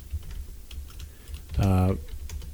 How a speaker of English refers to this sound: Can you hear me typing?